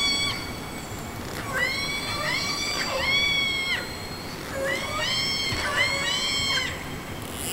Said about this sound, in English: And these whales, there's probably a dozen or so or more spread over maybe a kilometer.